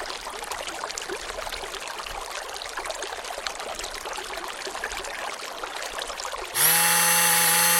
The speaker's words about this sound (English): Listeners, the City Council, for national security reasons, have replaced the following report with the sound of a burbling brook, followed by the sound of a running blender.